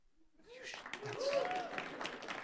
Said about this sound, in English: No, that's not good enough. You guys there should be rowdy applause.